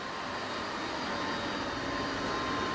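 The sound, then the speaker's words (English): Thousands of steel pipes below giant chimney stacks at the Miro oil refinery in southwest Germany hiss and steam in a steady, unbroken rush of noise with a faint high whine running through it, holding constant loudness throughout with no voices. “Here at this oil refinery in southwest Germany, thousands of gleaming steel pipes are hissing and steaming below giant chimney stacks.”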